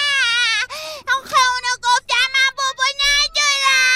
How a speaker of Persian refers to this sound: پسرم، مرد که گریه نمی کنه. گریه نکن، به من گوش بده. پسرم گریه نکن.